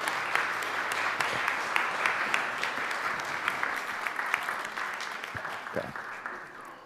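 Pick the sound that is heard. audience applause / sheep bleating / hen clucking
audience applause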